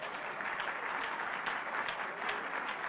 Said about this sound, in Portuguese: Se você concorda com isso, dá um aplauso ao Senhor, irmão.